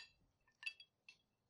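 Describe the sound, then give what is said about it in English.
Shot glasses of Knob Creek whiskey clink together in a toast, a few quick bright taps, with a softer ring trailing off in an otherwise quiet moment. “Cheers.”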